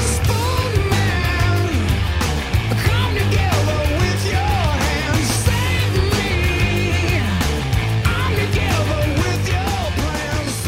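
A loud, dense grunge rock song plays throughout, with heavy distorted guitars, a driving bass line and pounding drums beneath a strained, wailing male vocal.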